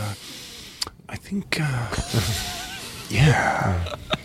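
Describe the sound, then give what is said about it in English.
A voice imitates Goldblum's inward nose breathing: sharp inward breaths through the nose, several airy sniffing gasps mixed with short voiced murmurs and sighs, fairly loud. “Inward nose breathing. He does a lot of that.”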